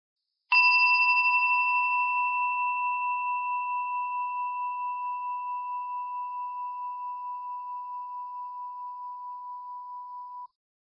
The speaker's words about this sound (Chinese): 待会钟声响起的时候，我们便开始练习。